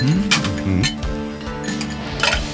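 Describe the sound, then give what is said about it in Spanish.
Ice cubes clink and rattle into a mixing glass while preparing a Chicago Cocktail, in a quick cluster of bright knocks, with a few more scattered clinks settling afterward; no one speaks. “Unos hielos en un vaso mezclador.”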